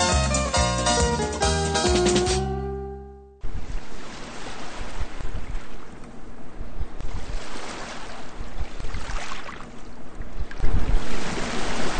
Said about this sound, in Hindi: शाम का दृश्य, सूरज डूब रहा है, सागर की लहरें एक तूफान का अंदेशा दे रही हैं। अब सागर नीला नहीं रहा और काले बादल उसके ऊपर मंडरा रहे हैं। तेज हवा चल रही है और चंद्रमा का साया सागर के ऊपर पड़ रहा है।